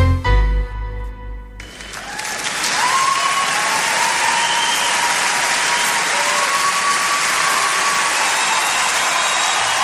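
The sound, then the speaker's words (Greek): A large live concert crowd bursts into loud, sustained applause for the band after a brief musical ending, a dense wash of clapping with scattered whistles and cheers that holds steady to the end. “Ακούστε τι ωραία ζωντανή ηχογράφηση, πόσος κόσμος είναι από κάτω και χειροκροτά αυτή την υπέροχη μπάντα”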